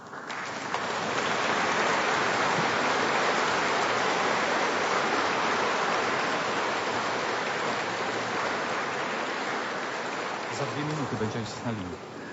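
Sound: people clapping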